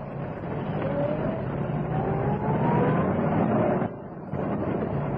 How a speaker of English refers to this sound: Bring the car in.